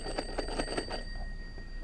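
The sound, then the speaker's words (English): A telephone rings in a quick, trilling burst of about five rapid bell-like pulses over the first second, then fades into quiet background hum. Fairly soft, with no one talking. “I hear the telephone ringing.”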